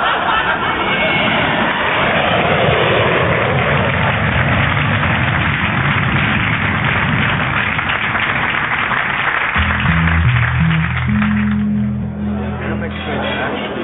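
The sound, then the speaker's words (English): A loud, roaring jet engine builds and sustains as a plane takes off, with a sweeping rumble and a busy murmur of background voices; a low, steady tonal hum joins near the end. “Proceed to the window and watch the plane take off.”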